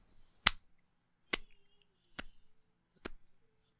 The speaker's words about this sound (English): Yay. little slow clap.